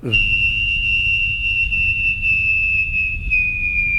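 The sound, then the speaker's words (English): A person vocally imitates a landing jet: a steady, high whistling whine that sinks slightly in pitch over about four seconds, layered over a breathy low rumble, with no talking. “But I used to do an impression of one.”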